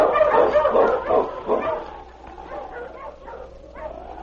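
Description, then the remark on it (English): A pack of sled dogs in a team on a trail bark and yip excitedly in a dense, overlapping chorus, loudest at first and then easing into scattered higher yips and whines. “Is Old Timer a member of that team? Sounds like yes to me. All right, boy.”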